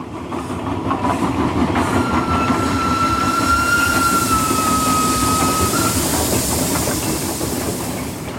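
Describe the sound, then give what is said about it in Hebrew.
A train rolls steadily along the rails with a dense, continuous rumble and rhythmic clatter, while a thin metallic wheel squeal rises and fades in the middle. No one speaks. “הרכבת הייתה כלי התחבורה העיקרי של התושבים, וגם אמצעי למשלוח התוצרת החקלאית לחיפה.”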